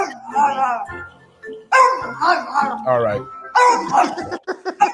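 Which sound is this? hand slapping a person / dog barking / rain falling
dog barking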